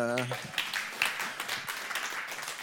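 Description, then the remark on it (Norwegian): A voice briefly speaks, then an audience breaks into steady, dense applause for two male volunteers, carrying on at moderate volume, with scattered sharper claps standing out. “Kan jeg bare liksom gi en klapp?”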